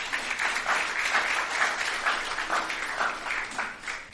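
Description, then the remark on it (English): A crowd claps steadily for about four seconds in applause for the speaker's son, a dense, even wash of applause from many hands at moderate volume, with no voices standing out above it. “Clap for him.”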